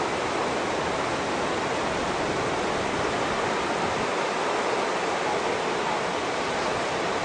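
A steady, dense roar of big ocean waves breaking continuously and blending together with no single crash standing out, and no voices, at a beach where surfers are out.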